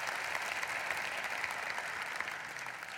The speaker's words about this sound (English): Give Jaden a round of applause there.